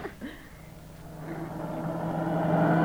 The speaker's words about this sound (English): Hey, look at those cars whiz by.